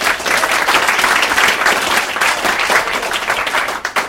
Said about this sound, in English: No, don't applaud for Andrew Price, but do applaud for our operations manager,